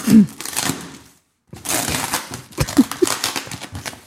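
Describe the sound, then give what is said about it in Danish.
Continuous crinkling and crackling of a heavily taped package being torn open and handled, with a brief pause before the rustling resumes in irregular bursts. “Nu åbner jeg den og ser, hvad det er, han er kommet med. Okay. Han er godt nok godt pakket ind.”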